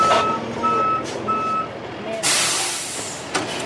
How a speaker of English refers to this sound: Another truck backs up, and suddenly thousands of gallons of water start gushing into one of the pools.